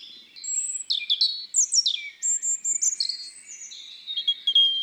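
A European robin sings a continuous, varied song of high, thin warbles and sliding whistles, phrases changing constantly with brief pauses between them, clear with no other sounds.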